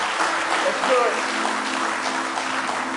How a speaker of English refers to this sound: Give him one more hand clap of praise if you love him with all your heart.